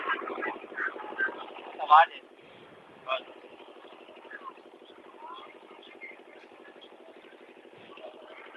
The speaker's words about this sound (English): there's an engine over here where we're standing making a lot of noise